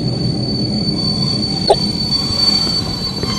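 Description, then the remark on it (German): A train rumbles steadily as it rolls into a station, a thin high wheel squeal running throughout and a brief clank near the middle, with no voices present. “Welcher Zug ist gerade eingerollt?”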